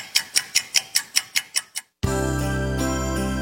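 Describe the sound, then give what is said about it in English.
A clock ticks quickly and steadily, about ten crisp ticks, then stops for a beat before a loud sustained chiming musical tone takes over. “Time's a ticking.”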